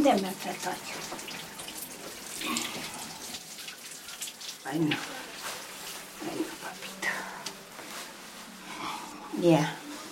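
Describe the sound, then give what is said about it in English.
Steady hiss of running shower water fills the whole stretch as a woman gives her 78-year-old husband his morning shower, with brief voices murmuring and calling out over the spray now and then. “who's much shorter than her sturdy 78-year-old husband, gives him a shower.”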